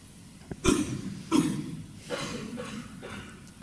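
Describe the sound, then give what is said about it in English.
A few scattered coughs rise from an audience gathered for a meditation, two sharper ones near the start followed by softer coughs and throat clearing. “And it's good actually people cough first of all, so can we do some communal coughing?”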